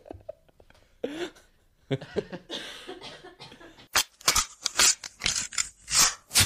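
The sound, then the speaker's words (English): Muffled throat and nose sounds at first, then a run of sharp, breathy bursts as a woman clears her nose and coughs, coming in quick irregular succession. “in between rounds, an opportunity to clear her nose and cough if she needs to.”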